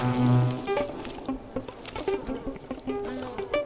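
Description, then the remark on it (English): A dense swarm of honeybees buzzes around hive frames covered in honey as the frames are taken out, many overlapping wingbeat drones shifting in pitch, fairly loud, with a strong hum at the start and no talking. “When you start to take out the frames and they're covered in honey and bees, you kind of got like a adrenaline.”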